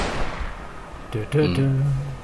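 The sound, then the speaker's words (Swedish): A single gunshot bursts out at the start and its noisy echo fades over about a second, then a voice begins speaking over the tail. “Däremot så hör du hur det smäller till ett tillskott någon annanstans ifrån.”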